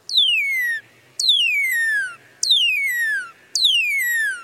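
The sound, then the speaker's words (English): Four long, smooth whistles slowed down from a cardinal's song, each sliding steadily from high to low pitch, loud and evenly spaced with short gaps between them. “Here's the song slowed down. Notice how seamless the whistles are.”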